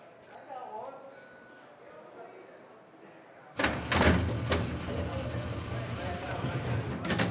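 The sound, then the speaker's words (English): After a quiet, hushed stretch, a heavy metal cell door clanks loudly and rattles open, with a few sharp metallic clinks and a sustained grinding scrape. “When the cell door opened, Cass was curled on the bed, knees to her chest.”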